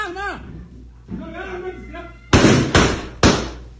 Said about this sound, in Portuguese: Olha aí o disparo, e aí vai aparecer o soldado Ramon baleado.